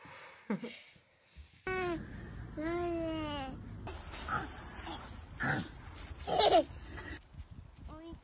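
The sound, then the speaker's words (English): Children's voices imitate farm animals, a quick run of fairly loud bleats, moos and grunting calls, with some babbling and giggly sounds between them. “Mary gave birth to the baby Jesus in the lowly stable, surrounded by lots of animals. Ba, moo, and no.”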